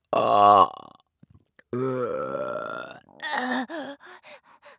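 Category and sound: human body sound, burp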